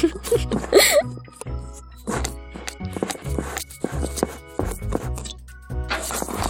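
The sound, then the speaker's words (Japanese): A whisk rattles and knocks against a bowl in quick, uneven strokes as a butter mixture for sweets is stirred round and round, fairly loud, with the bowl ringing faintly between the clattering bursts. “そこに泡立て器を入れて、ぐるぐるぐるーって混ぜまーす。”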